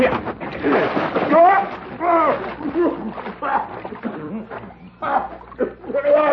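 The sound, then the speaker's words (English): Loud splashing as a man is dunked into a water trough at a ranch, with churning water sloshing throughout while voices shout and laugh over the commotion. “Water trough beat the Navajo.”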